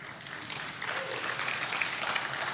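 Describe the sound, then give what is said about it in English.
An audience applauds steadily, a dense, even wash of many hands clapping at moderate volume with no voices on top, sustained throughout; the applause is offered to God at a men's church gathering. “That applause, God, is for you.”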